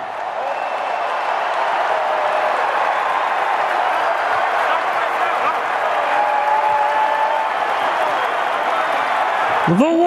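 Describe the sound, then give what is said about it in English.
A big NBA arena crowd, standing, roars and applauds steadily for the full ten seconds as Klay Thompson is introduced, a dense, loud wash of cheering and clapping with scattered whistles rising over it. “Now the crowd standing.”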